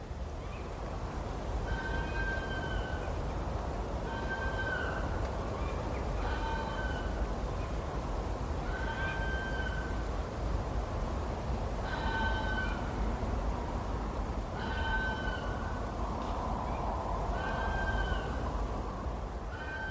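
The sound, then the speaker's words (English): An urban red fox vixen screams repeatedly on a winter night from a path at the end of a garden: about seven harsh, wailing cries spaced a couple of seconds apart, over a steady hiss of background noise. “Urban foxes are doing fairly well in our neighbourhood, and on winter nights, the vixens sometimes announce their visits from the path at the end of the garden.”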